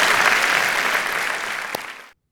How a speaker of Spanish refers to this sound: Si Dios le habló, dé un aplauso al Señor, que Él se lo merece. Amén.